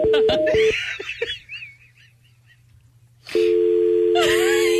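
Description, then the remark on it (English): A few quick telephone keypad beeps sound at the start. A quiet pause follows, then a steady, loud phone tone starts and holds, with chirpy warbling sounds over it. “You haven't dialed anything.”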